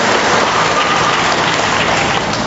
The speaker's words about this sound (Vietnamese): Rồi chúng ta cho một tràng pháo tay để chào mừng những người lên làm chứng hôm nay.